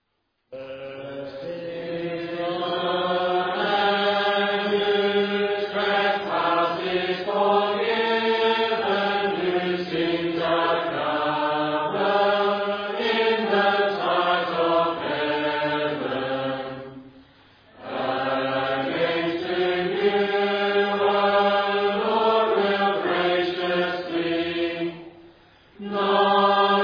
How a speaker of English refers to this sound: Our final song will be Psalm 32, verse 1.